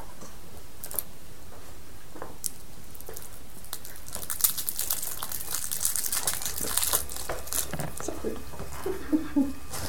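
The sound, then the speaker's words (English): Cough drop wrappers crinkle in sharp, papery crackles, scattered at first and then bunching into a busier, steady rustle through the second half. “Yeah, between us crinkling our cough drops”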